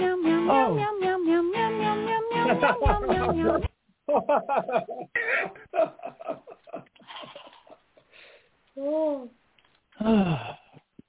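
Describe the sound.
A cat meows once or twice, a short rising-and-falling cry, between stretches of people talking and laughing.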